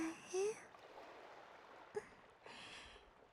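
flowing river water

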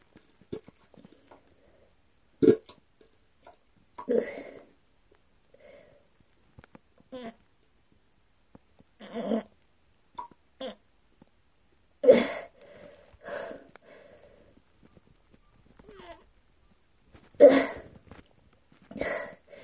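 fart

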